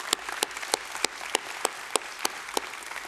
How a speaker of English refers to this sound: And can you help me to clap for you guys for your generosity? Can you help me to do that, church? Come on.